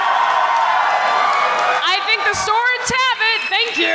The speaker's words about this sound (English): All right, so all in favor of laser? Clap. All in favor of sword?